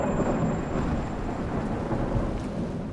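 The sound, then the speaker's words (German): A loud, deep roll of thunder from a lightning strike rumbles continuously from start to finish, heavy in the low end, with a faint hiss of rain above it and no voices. “Das ist dann also der Blitz?”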